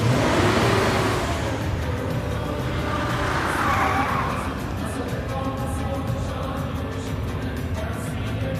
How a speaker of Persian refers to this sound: این یارو با نیسان آبی زد بیرون.